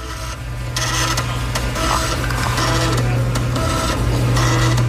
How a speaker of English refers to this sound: A floppy disk being read, especially when you've got six more to go after this one finishes. I remember floppy disks, but I did not remember a sound that it made.